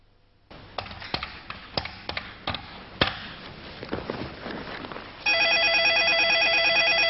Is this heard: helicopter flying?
no